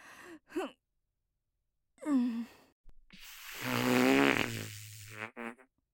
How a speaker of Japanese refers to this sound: おなら出したし、これでどうかしら。